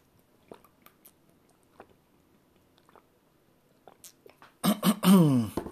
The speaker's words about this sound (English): And I don't know why my throat is not cooperating today. I apologize for that. hopefully it's not too distracting. I'm going to take a drink of water again.